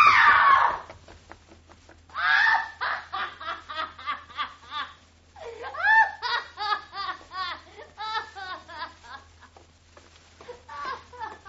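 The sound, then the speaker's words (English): A drunken woman lets out a sharp, high-pitched scream as a trick, followed by a run of rapid, shrill vocal bursts, like hysterical laughing or sobbing, with no other talk. “She screamed.”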